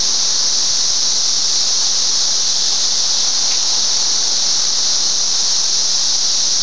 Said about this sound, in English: As you can tell, it's coming in waves. I have a couple of cicadas out here on the outside of the pane, around the edge of it. Three.